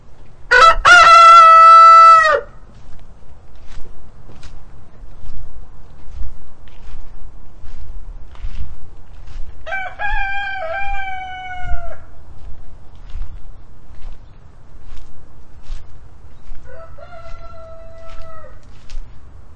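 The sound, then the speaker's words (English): A loud rooster crows, followed by two fainter answering crows, with a low rumbling background and no talking. “Stereo roosters.”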